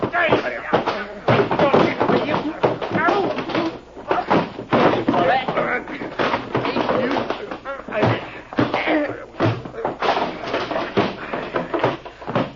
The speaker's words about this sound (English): Gee, that was a fight.